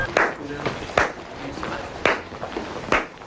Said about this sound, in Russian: Вы вот сейчас серьезно изображаете эти вот замедленные аплодисменты? Потому что это было модно в 80-х.